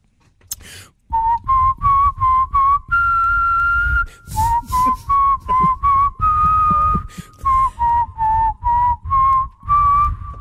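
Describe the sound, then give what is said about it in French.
A person whistles a bright, catchy advertising jingle in a quick run of short pitched notes with a couple of longer held tones, steady and clear with no talking. “Je vous siffle des publicités, vous me donnez le nom de la pub.”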